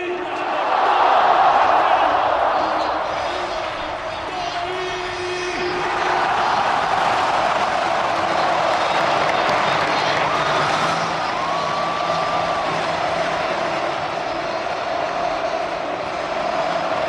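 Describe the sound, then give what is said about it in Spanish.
A huge crowd at the Bernabéu stadium cheers and applauds Antonio Kroos, wearing number 8, as he says a final farewell to Real Madrid, in one continuous, dense roar that stays loud throughout, swelling early on and surging again partway through. “Y vamos a ver cómo recibe el Bernabéu a don Antonio Kroos con ese número 8 a la espalda.”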